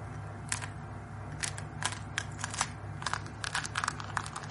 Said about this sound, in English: Listen. He's chewing his way out of the shell. Won't he... it suffocate under the gravel? But he's not resting, and yet fighting his way out of that shell must be exhausting him.